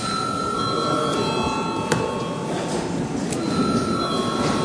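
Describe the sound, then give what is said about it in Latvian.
The electric session bell of the Latvian parliament (Saeima) rings continuously, a steady, bright metallic buzz with high sustained tones that holds for the whole stretch at an even, fairly loud level. “Lūdzu zvanu.”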